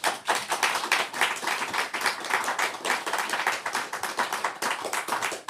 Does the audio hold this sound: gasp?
no